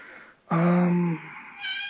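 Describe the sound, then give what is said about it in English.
A cat lets out a loud, drawn-out meow, followed after a short pause by a softer, higher-pitched second meow. No one speaks. “There's my cat meowing in the background.”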